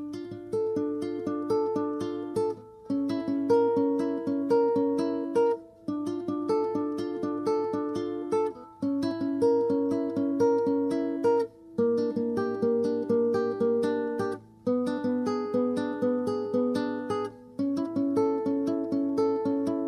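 A steady instrumental music track from an album, played on the radio program Agenda Camacuá before a break, with clear harmonic notes in repeating phrases, a low sustained bass line, and brief pauses between sections, played loud with no voices.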